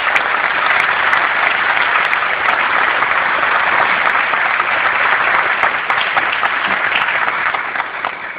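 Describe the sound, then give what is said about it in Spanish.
A crowd claps steadily for about eight seconds for the participants of the Nueva Oportunidad project, a loud, dense wash of many hands with no pauses, tapering slightly at the very end. No one speaks over it. “Así que en nombre de todo el equipo de trabajo de Nueva Oportunidad, los felicito de nuevo y pido un aplauso también para ustedes.”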